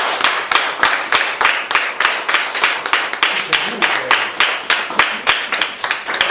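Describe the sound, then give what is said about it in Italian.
An audience at the first congress of the Associazione Antispecista Radicale Parte in Causa bursts into steady applause after the election results for its officers are announced, many hands clapping together in a dense, rhythmic patter that stays fairly loud throughout, with no one speaking over it. “Per cui gli eletti sono quelli che vi ho programmato adesso, direi un applauso.”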